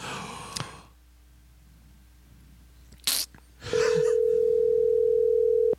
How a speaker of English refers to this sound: Here we go. All right, he's getting called.